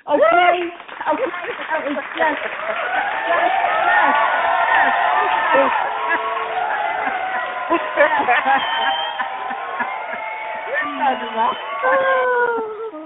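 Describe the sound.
A crowd cheers and whoops continuously, many voices rising and falling in overlapping shouts over scattered clapping, staying loud and steady throughout.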